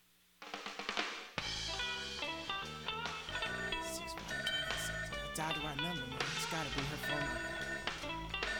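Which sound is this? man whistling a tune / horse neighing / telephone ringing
telephone ringing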